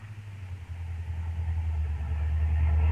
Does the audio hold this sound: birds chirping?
no